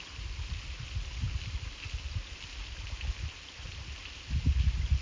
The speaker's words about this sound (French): La cascade coule à peine.